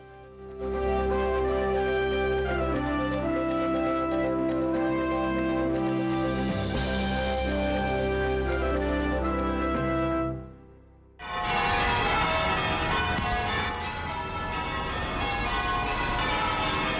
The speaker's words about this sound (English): Church bells in Charleston, South Carolina, where worshipers returned to a church there Sunday for the first service since a white gunman gunned down a Bible study group at the historic African-American church last week.